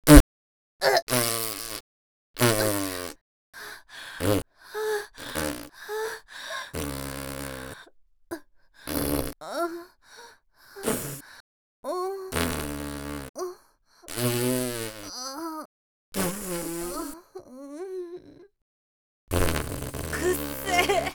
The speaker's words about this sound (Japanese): お姉ちゃん普段はおっとりして可愛いくせに、おならブーブーこきまくりで、しかも臭いときた。